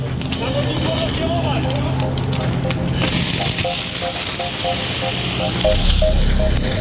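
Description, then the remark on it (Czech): Firefighters' hoses blast water onto the last hotspots of a fire in a log house around 7 a.m., in a steady, rushing hiss that grows louder and brighter partway through, over a low rumble, with a repeating pulsed tone and muffled voices underneath. “Proudy vody ještě likvidují poslední ohniska požáru v domě”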